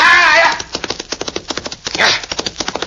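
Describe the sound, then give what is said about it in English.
Horse hooves gallop in a fast, steady rhythm of sharp thuds, with a louder burst of noise at the start and another briefly midway: the horse Diablo galloping to catch another horse. “Now, show me you can catch that other horse.”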